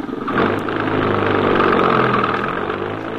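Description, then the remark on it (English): An empty truck's heavy engine rumbles loudly, revving steadily as it pulls away to drive over to the garage, with a low droning hum and no voices. “Drive it over to the garage.”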